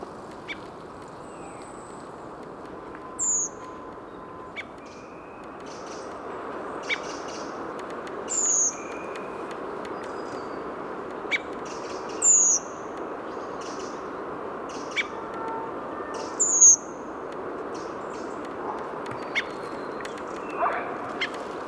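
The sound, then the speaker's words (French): A redwing, a migrant thrush from Scandinavia, perched at the top of a tree in the Bois de Vincennes, Paris, gives thin, high, drawn-out calls, four clear ones spaced a few seconds apart plus fainter notes, over a steady low background hiss with no talking. “Migrateur de Scandinavie. Qui a dû voler toute la nuit et là qui se pose au sommet d'un arbre.”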